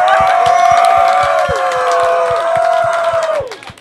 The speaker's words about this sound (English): I really want a loud round of applause.